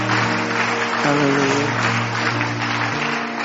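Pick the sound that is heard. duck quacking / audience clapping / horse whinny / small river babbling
audience clapping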